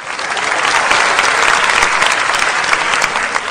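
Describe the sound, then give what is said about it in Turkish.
Steady audience applause, a dense crackle of many hands clapping at an even, loud level throughout with no pauses and no voices standing out. “Alkışlarınızla yaşıyorum efendim.”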